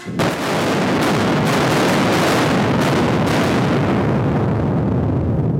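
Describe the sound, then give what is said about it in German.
Loud blasting explosions from explosives set in a rock wall to excavate the first meter of a drainage tunnel go off in quick succession, several sharp detonations merging into a sustained, heavy roaring rumble that fills the whole clip, powerful, with no voices. “Es wird zuerst alles abgesichert und wenn nichts mehr im Weg steht, wird gezündet.”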